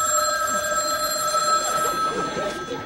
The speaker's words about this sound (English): Oh, it's a phone. I'll get it.